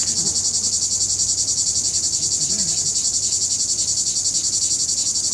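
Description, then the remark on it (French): A dense, unbroken buzz of cicadas fills the air, loud and steady with a fast shimmering pulse, continuing without pause throughout. “C'est là le coup des cigales, voilà, c'est pareil, si on pouvait de temps en temps couper le volume.”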